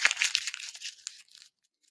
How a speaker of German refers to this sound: Ich werde jetzt das Blatt Papier zerknüllen.